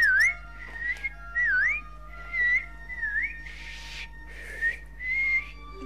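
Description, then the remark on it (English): A person whistles a short, lilting tune of swooping, sliding notes in several quick phrases, clear with no talking, growing breathier and airier toward the end. “And when the angels want to go someplace, they just whistle like this.”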